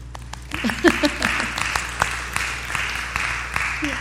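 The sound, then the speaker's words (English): An audience breaks into steady applause for fathers on Father's Day, a dense wash of many hands clapping at moderate volume, with a few scattered voices and brief vocal sounds rising through it. “Let us applaud our fathers who are so busy making both ends meet.”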